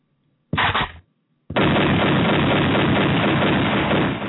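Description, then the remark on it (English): Gunshot sound effects played on K100 Radio, loud: a short burst of fire, a half-second pause, then a sustained, dense barrage of rapid gunfire that runs to the end, with no voices. “Probably was bad taste that I used gunshots as I'm talking about this tragedy.”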